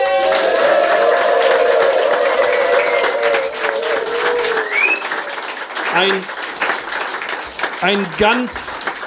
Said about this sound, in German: Einen großen Applaus.